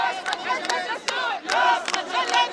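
crowd of protesters shouting

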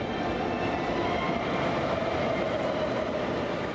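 subway train

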